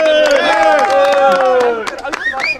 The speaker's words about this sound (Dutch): Jij hebt de derde prijs gewonnen. Mag ik jou van harte feliciteren en een applaus